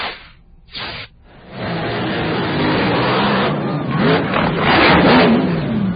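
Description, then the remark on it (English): A hydroplane racing boat's engine roars loud during a practice run in San Diego, rising after a brief quieter, choppy start into a sustained, revving drone that swells slightly toward the end. “A hydroplane racing boat broke apart after the driver lost control during a practice run.”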